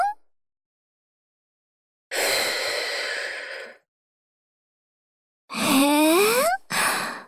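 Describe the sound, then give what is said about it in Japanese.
A long, steady breath is blown out toward the listener, followed after a pause by a breathy exhale with a rising voiced tone and one short puff. No speech. “今度は息、吹きかけてみちゃおっかな。”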